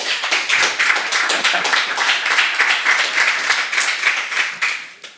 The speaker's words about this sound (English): Welcome, and a short applause.